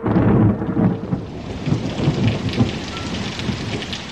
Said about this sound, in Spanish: Una tarde, oscureció el cielo y comenzó a caer una lluvia torrencial. Se oían truenos y se miraba el resplandor de los rayos.